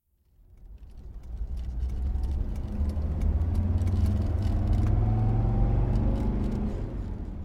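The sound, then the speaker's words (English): A car engine revs up and the car drives along fast and steadily on the way to the beach, its hum climbing in pitch as it accelerates, loud with a constant road rumble underneath. “Your car is fast!”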